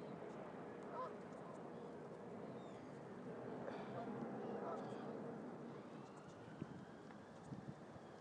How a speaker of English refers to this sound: And birds, get ducks, geese, whatever, in the river. It's quite nice.